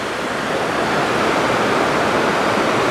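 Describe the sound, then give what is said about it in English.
A heavy, steady, loud roar of a large volume of water rushing through a system fills the whole clip, like a powerful waterfall or torrent pouring without pause. “I was going to say the pure volume of water that's getting trucked around. I don't know. That's flowing through the system.”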